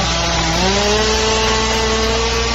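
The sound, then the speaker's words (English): A chainsaw runs loudly and continuously, cutting through a tree branch that holds a beehive until the branch falls; its buzzing engine whine rises in pitch early on, then holds steady under the cutting. No voices are heard. “Making that noise because a branch from a tree fell down.”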